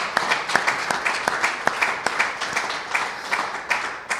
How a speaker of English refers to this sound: But, ladies and gentlemen, I think we should give these two guys a huge round of applause for committing to the ongoing success of the Collingwood Football Club